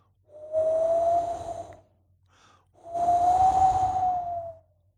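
Two gusts of cold wind with a little sleet, early on a dark, dreary morning, each lasting over a second, rise and fall with a breathy rush and a thin whistling tone, separated by a brief lull. No voices are heard.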